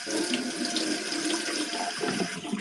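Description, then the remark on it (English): Water pours steadily from a faucet, a continuous bright rushing hiss that stays loud for the whole stretch with no talking over it. “More water.”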